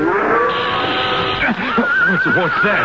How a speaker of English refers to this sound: What's that? Rattler. Don't pay any mind. Just hold that horse of yours.